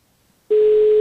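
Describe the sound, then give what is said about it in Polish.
After half a second of near silence, a loud, steady telephone tone starts abruptly and holds as a single unbroken pitch: a call to foundation president Grzegorz Bakalarczyk ringing out with no answer. “No to pan Grzegorz nie odbiera telefonu.”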